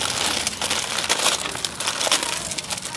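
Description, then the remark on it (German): Continuous crinkling and rustling of packaging as a package holding rice and Thai soups is opened, a bright, crackly texture with irregular louder bursts, steady throughout with no voices. “Ich knister nicht so rum, es verknistert sich die Aufnahme.”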